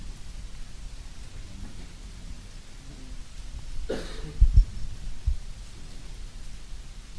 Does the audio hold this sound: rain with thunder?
yes